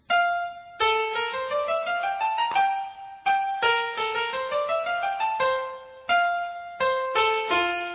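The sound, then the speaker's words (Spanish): The Queen of the Night soprano aria from Mozart's The Magic Flute played in reverse, from end to beginning, each phrase swelling up and then cutting off abruptly, with sliding, rising notes over a steady, fairly loud musical flow and no talking. “Bueno, pues ahora la vamos a escuchar invirtiendo el tiempo, tocada desde el final hacia el principio.”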